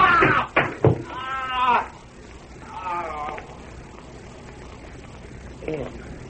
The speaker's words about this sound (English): that barrel hit him. That barrel dropped square in his head.